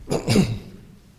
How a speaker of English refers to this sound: That's an affliction of preachers, to get a little cough.